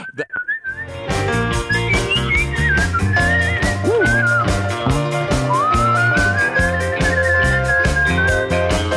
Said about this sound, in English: I think I whistle on it a la …